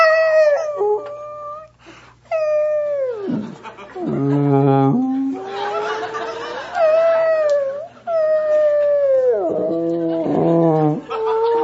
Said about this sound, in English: He's out on a ship. He's got a pencil. And he deciphers the whale noises as he hears them.